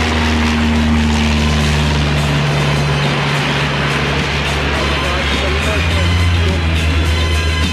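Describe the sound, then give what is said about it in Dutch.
The engine of a homebuilt light propeller aircraft by a Dutch designer drones loudly and steadily as it flies, its low buzzing hum holding a constant pitch throughout, with a voice faintly audible beneath the noise. “Dit is de machine van een Nederlandse ontwerper, die evenals alle anderen werd voorgevlogen.”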